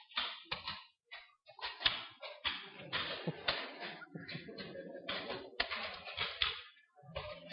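Many audience members at an evening session click notebooks open at once, a dense, irregular clatter of overlapping snaps and taps lasting several seconds, with no clear talking.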